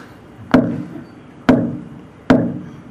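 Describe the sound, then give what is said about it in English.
Morse code tapped out by hand: three sharp, hollow knocks on a hard surface, evenly spaced roughly a second apart, each with a short ringing decay, spelling the letter S. No voices. “Three times. That's S.”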